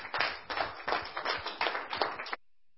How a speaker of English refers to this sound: Let's give a little round of applause.